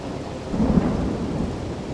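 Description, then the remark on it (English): Steady rain hisses throughout on a rainy day while a low, rolling rumble of thunder swells up partway through and lingers, fairly loud, with no voices present. “It was raining when she came by to talk.”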